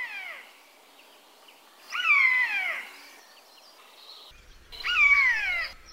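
A jay mimics a common buzzard's mewing cry: three drawn-out, high descending mews, the second and third louder and slightly harsh, with no one talking.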